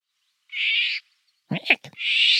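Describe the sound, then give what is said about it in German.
Harsh, raspy call of a bird whose males are black and yellow with a red bill: two broad screeching bursts around a short, rough croaking note, loud and alone with no talking. “Neben dem Gesang ist auch der Ruf noch relativ charakteristisch.”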